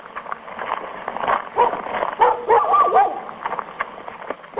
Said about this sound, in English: A dog barking at the front gate, red-painted barns, and big diesel-powered tractors. It looks like any other farm anywhere in the American Midwest, but this 480-hectare spread is managed and operated by students from Iowa State University.